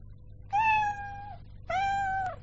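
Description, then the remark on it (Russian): A small kitten stuck up a tall tree meows twice, each cry high-pitched and drawn out for nearly a second, clear with a short pause between, over a faint low background hum. “О, маленький котенок застрял на таком высоком дереве.”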